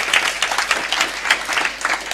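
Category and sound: crowd, audience clapping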